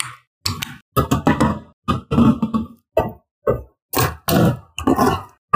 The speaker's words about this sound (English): Ooh, weird. My cat was under the couch for some reason, as if someone is listening in.